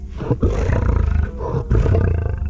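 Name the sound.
tiger roar sound effect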